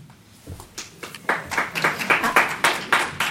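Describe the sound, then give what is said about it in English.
A few scattered claps start things off, then an audience at a candidates' event breaks into steady, moderately loud applause. Many hands clap together in a quick, even patter. “I really want you to ask you to not applaud or boo or any of that stuff.”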